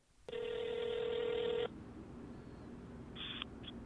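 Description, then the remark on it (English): A phone call to a late son's cell phone: one loud, steady electronic tone holds for over a second, then after a quiet pause two short, higher beeps sound faintly, like a call connecting. “Patricia used to call it to hear her son's voice.”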